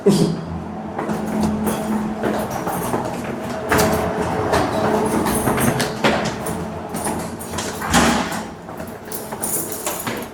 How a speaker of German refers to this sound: Im ersten Stock hört man das Rauschen der Kältemaschine.